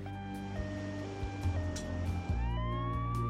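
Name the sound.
ambulance siren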